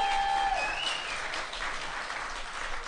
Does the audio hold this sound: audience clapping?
yes